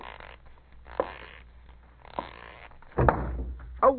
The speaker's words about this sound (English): Boy, did that ever hurt. No wonder you bumped into the door. There's no room to squeeze by.